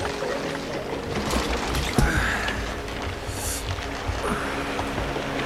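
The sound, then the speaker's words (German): A motorboat stops on the water: water sloshing and splashing around the boat, with a steady low rumble beneath, continuous with no one speaking. “Schau mal, Julian, dort hält ein Motorboot an.”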